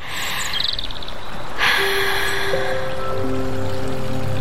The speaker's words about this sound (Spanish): Ese momento en que te descalzas, metes un dedo en el arroyo y...